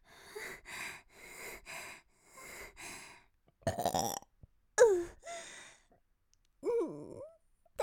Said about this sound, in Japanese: 恥ずかしいのに、また大きいゲップ出ちゃいそうです。